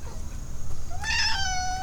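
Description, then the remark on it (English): A single drawn-out cat meow rises and holds with a clear, slightly whiny tone, over a low background hum with no one talking. “You don't like those birdies? You want to eat them up?”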